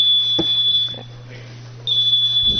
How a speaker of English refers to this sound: We have a new alarm, apparently. Didn't know.